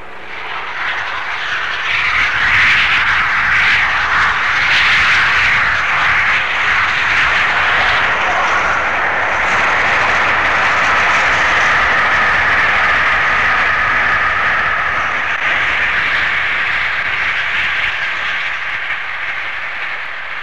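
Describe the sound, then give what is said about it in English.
The steam locomotive Flying Scotsman races past near St. Neots at 92 miles an hour, on a high-speed run between King's Cross and York: a loud, continuous rushing roar that swells in the first seconds and holds steady for the whole stretch, with no voices. “Before the 80 mile an hour limit had been applied to Flying Scotsman due to her age, a fairly high speed run was made between King's Cross and York, and the sound you hear now is Flying Scotsman near St. Neots running at 92 miles an hour.”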